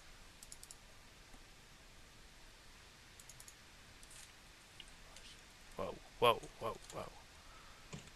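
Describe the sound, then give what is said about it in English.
Quiet, scattered computer key presses, keys bound to buy items in a game with the End key set to the AWP, give way to a quick cluster of four or five louder, sharper clacks near the end, over a faint background hiss. “Anyways, I have my keys binded so I can buy stuff by just pressing keys.”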